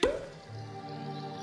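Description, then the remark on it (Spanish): A single sharp pop of a cork coming out of a bottle right at the start, with a short hollow ring, followed by a steady low background hum that continues for the rest of the moment. “Destapa.”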